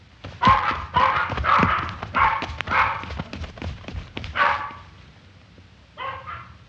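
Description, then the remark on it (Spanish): Three tiny dogs bark and yip in a quick, overlapping flurry, several sharp high-pitched barks tumbling together, then a short pause before one last yap. “Los tres perros eran sus compañeros.”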